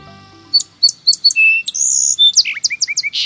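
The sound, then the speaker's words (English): A lively bird song of quick, high chirps and whistled notes, with a sustained trill in the middle, sung clear without any talking. “By this time in September, most migratory birds have departed, taking their songful voices with them.”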